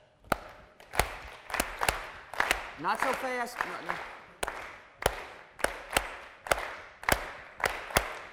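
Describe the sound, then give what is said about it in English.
Sharp hand claps repeat in the uneven seven-beat rhythm of a Bulgarian folk dance tune, long and short beats, with a voice briefly speaking partway through before the clapping carries on. “Clap with me.”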